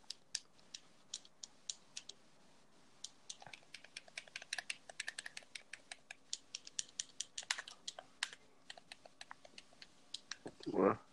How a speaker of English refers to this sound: Damn, bro, you sound like you using the you typing daggone Morse code.